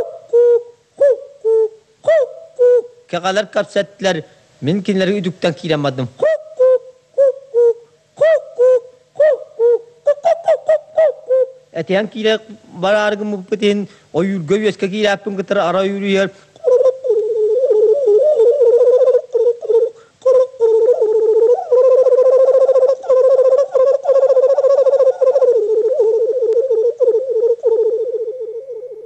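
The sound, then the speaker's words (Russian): A man sings a Yakut hunter's song, imitating bird calls with rapid, repeated hoot-like notes and rough guttural bursts, then a long warbling, sustained vocal passage. The voice is loud. “А вот еще образец якутского пения – песня охотника, подражание голосам птиц.”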